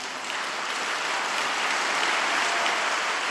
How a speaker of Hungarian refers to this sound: Hosszú tapssal fogadták a 6. Pál teremben jelenlévő hívek a Szentatya szívből jövő köszöntését